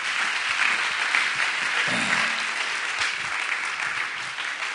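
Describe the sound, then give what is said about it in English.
A crowd applauds steadily to welcome the evening's guests for coming, a dense rush of many hands clapping at an even loudness throughout, with a brief murmur of voices underneath partway through. “We're going to give you a hand clap because you took the time to come.”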